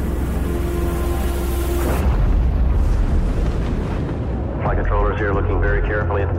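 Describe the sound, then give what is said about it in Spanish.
A steady electronic hum gives way to a sudden deep, roaring rumble as the Space Shuttle Challenger explodes during launch on 28 January 1986, filling the sound loudly and continuing, with faint voices rising over it toward the end. “El 28 de enero de 1986, la explosión del transbordador arrojó restos en 1.300 kilómetros cuadrados de océano.”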